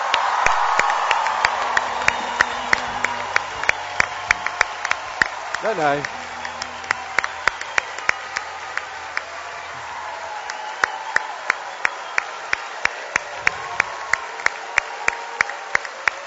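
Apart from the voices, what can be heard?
audience applause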